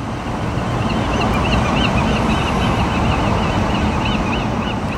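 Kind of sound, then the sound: bird, gulls calling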